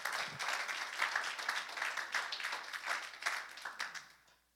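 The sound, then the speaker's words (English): An audience applauds steadily as a clap offering to the Lord, a dense wash of overlapping claps holding an even level for several seconds before tapering off at the end. “Give the Lord a clap offering in this place.”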